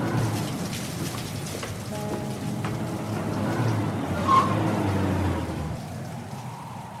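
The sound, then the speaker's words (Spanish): Steady rain patters down in cold weather in Popayán, a broad, continuous hiss, with a low rumble of traffic or an idling engine underneath and a brief tonal squeak partway through. “frío hace en Popayán, y además con esta lluvia.”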